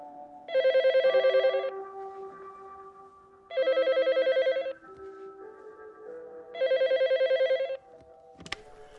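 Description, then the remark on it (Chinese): A landline telephone at home rings with a trilling bell in three distinct bursts, each about a second long and evenly spaced, loud, with a low background hum between rings and no talking. “能把电话打到你家里，你不奇怪吗？”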